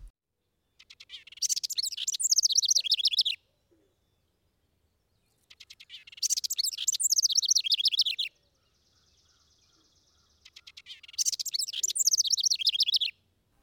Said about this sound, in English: House wren.